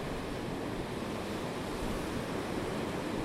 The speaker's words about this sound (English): But I'm loving it by the sea just at the moment. A brisk wind from the north. It's quite cold as well.